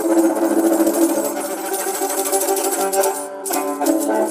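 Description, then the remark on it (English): A viola da gamba is bowed with a bell bow, a 19th-century folk bow whose bells hang on very large safety pins that slide along the wood of the bow. Its sustained buzzy string tone is layered with a constant bright, rattling jingle of little bells. The sound is steady and fairly loud, with a brief break near the end. “And the bell bow.”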